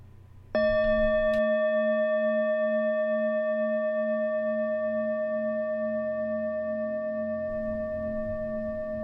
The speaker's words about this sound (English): There's going to be a bell at the beginning to signal the start of the meditation and a bell at the end to finish it.